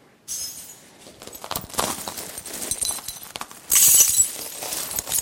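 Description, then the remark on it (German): Glass shards crunching and grinding under the bare feet of a man walking and turning on a pile of shards in a stage act, a steady run of sharp clinks and gritty scrapes that swells into a louder, brighter burst of crackling near the end. “Und man hört, wie die Scherbe verdrückt.”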